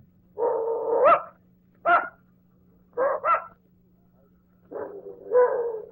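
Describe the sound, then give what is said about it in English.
An old female dog barks and growls at a visitor in several loud bursts, some drawn out into grumbling yowls and others short and sharp, with brief pauses between them over a steady low hum. “I don't believe your dog likes me”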